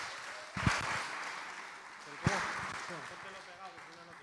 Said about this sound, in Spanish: Muy bien. Un aplauso para él.